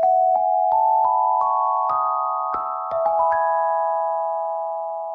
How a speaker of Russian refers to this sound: Проснулся Бада от звона.